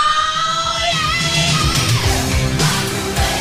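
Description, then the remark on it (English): A loud, raw classic rock vocal scream in a promo for the radio station 103.9 The Fox holds steady for a few seconds, strained and sustained with gritty harmonics, backed by driving band instruments underneath. “That solo. That sound. That classic scream.”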